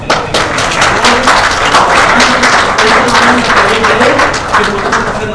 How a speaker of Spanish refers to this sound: Si tú lo piensas, aplauso al Señor.